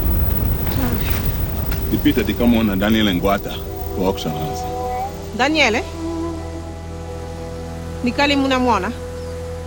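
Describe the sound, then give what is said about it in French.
A steady wash of heavy rain during the rainy season, in a scene from the Netflix film The Boy Who Harnessed the Wind, hisses and rumbles throughout, loudest in the opening second, while people talk over it in short exchanges. “Pendant la saison des pluies, comme vous l'entendez là, elles sont parfois noyées.”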